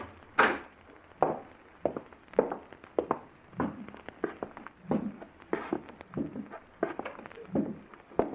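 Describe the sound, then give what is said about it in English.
Steady footsteps walk at an even pace across a hard floor on the way out through the back door, each step a distinct knock, with a sharper thud near the start as the back door is opened. “Walk in front of me. We're going out through the back door.”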